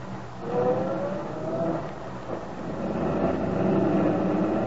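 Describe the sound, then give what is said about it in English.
Aunt Mary's truck drives off, its engine rumbling and droning steadily as it pulls away, the low motor noise filling the scene with no voices. “Sergeant Bill Meade watched Aunt Mary's truck drive off.”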